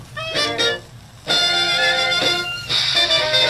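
An old Dixieland jazz 78 record from the Great 78 online archive plays, with bright, brassy horn lines swelling in bursts over a steady hiss of surface noise. No one speaks.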